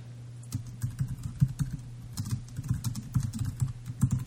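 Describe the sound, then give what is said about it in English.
Rapid, heavy typing on a computer keyboard, a steady clatter of hard keystrokes with a low hum underneath and no voices. “I mean, who is pounding the shit out of the keyboard right now?”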